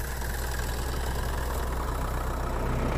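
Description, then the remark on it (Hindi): A tractor engine idles steadily, a loud, continuous low chugging rumble that holds the same level throughout, with no voices. The tractor is driven by a woman farmer in the fields of India. “हिंदुस्तान के खेतों में महिलाओं का, औरतों का काम करना कोई नई अनोखी बात नहीं, लेकिन इस तरह से उनका ट्रैक्टर चलाना जरूर अनोखा है।”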